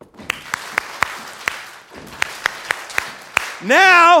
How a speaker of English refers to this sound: So we're going to go clap five times, stomp, clap five times, stomp, clap five times. One, two, ready, go.